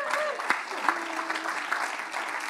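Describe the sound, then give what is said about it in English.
Steady, dense applause from a church service audience fills the whole stretch, a continuous wash of many hands clapping at a fairly even level, with faint voices mixed in underneath. “Come on, give them a hand.”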